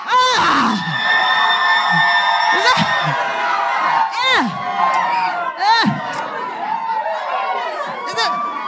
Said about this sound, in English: Why are you shouting like that?